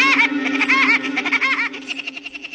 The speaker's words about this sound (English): He doesn't sound exactly like Woody Woodpecker, but this acorn woodpecker was probably the model for the cartoon character.